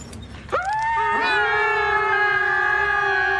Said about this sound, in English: Where they whine at the top of their pre-voice-changed lungs. It's as annoying as a car alarm.